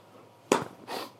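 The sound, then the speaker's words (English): A single sharp crack of a toy snaps out, followed a moment later by a softer, breathy rustle; no one speaks. “What's that going crack? It's a toy.”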